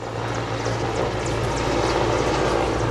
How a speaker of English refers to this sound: Nearby, huge black helicopters rise out of the jungle at regular intervals, drowning out all other sounds, then sweeping off into the distance.